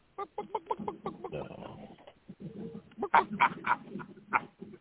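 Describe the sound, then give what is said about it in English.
A person imitates a chicken with a run of quick, rhythmic clucks, fairly loud, followed by a few sharper, louder squawking clucks, with no other talking. “Hey, I hear somebody clucking like a chicken.”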